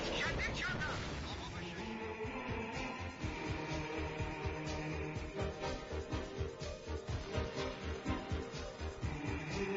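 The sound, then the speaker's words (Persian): Rapid, repeated gunshots crack through a dense, chaotic wall of noise, loud, with irregular bursts continuing throughout and what may be voices mixed in the din. “آقا آماده باشین شلیک میکنیم.”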